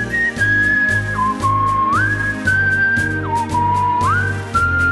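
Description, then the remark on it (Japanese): A whistling music track: a clear whistled melody glides between sustained notes over a steady backing track with a rhythmic low-end pulse, prominent throughout, with no one talking. “そしてご要望の多かった口笛の楽曲も制作しました。”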